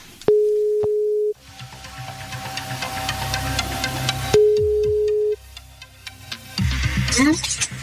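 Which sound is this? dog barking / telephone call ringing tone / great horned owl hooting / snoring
telephone call ringing tone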